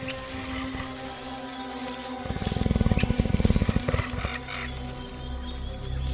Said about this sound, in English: a jaguar, the supreme jungle predator.